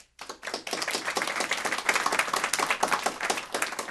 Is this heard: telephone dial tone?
no